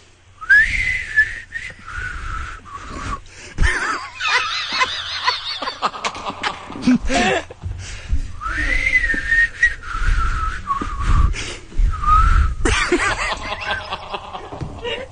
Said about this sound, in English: Is it easier to whistle when you're laughing? No, it's much harder.